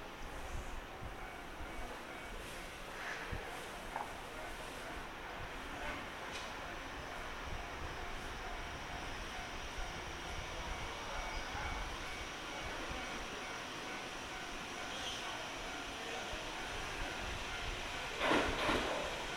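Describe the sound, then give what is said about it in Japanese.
A local train bound for Nagoya, stopping at every station, pulls into platform 2 of a station with a steady, broad rumble of wheels and rolling stock, ending in a brief sharp squeal or clatter as it slows. “まもなく2番乗り場に名古屋行き普通電車、名古屋行きの普通電車が到着いたします。”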